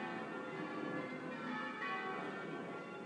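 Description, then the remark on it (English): Church bells ring in a dense, continuous peal, their overlapping tones sustained and fairly loud throughout, with no voices present. “You wouldn't want bells thrust upon you, actually, would you?”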